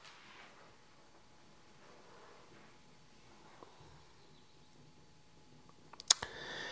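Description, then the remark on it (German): A few sharp typing clicks over a quiet, hissy room: one isolated tap early on, then a short, louder cluster of clicks near the end. No one speaks. “Ah Gott, es tippt.”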